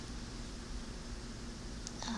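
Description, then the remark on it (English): A faint, steady buzzing hum like an air conditioner runs unbroken beneath a soft wash of background hiss, with no one talking and a couple of brief small noises near the end. “like a buzzing noise. I think, what do you call those? It's like an air conditioner or something.”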